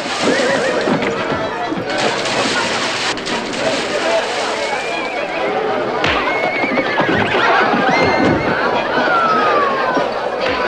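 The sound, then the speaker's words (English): A horse neighs with rising and falling whinnies while hooves clop steadily along a rutted street, stopping at the local hotel where the rider tethers it, set against a busy background of voices and bustle, loud throughout. “They negotiate the rutted street and stop at the local hotel. The rider tethers his horse”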